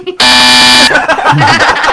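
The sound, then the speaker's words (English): A loud, harsh buzzer on the radio show Radio Rubber Room blares in one steady burst for under a second, then cuts off into a jumble of overlapping voices and noise. “Bastard for buzzing me.”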